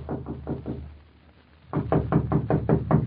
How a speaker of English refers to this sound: A knock on the door, please,